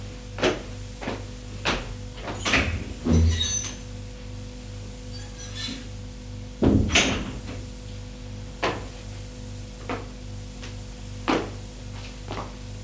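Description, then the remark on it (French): A wardrobe door opens with a thunk, followed by scattered clicks, knocks and rustling as someone goes through the pockets of hanging jackets, over a low steady hum, with no talking. “ouvre la porte de la penderie et fait les poches des vestes.”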